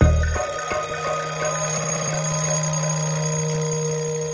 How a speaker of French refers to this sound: Le lendemain, le réveil sonne pourtant à 6h.